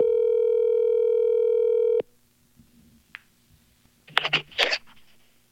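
A steady, loud telephone dial tone hums for about two seconds while a phone call is placed, then cuts off abruptly, followed by quiet line noise and a few brief crackly bursts like a call connecting.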